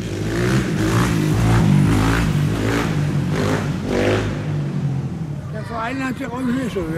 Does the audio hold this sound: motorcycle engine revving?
yes